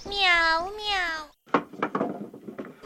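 Two drawn-out, sing-song meows voiced by a person imitating a cat in a children's story, the cat answering a knock at its door, loud, followed right away by quick spoken talk.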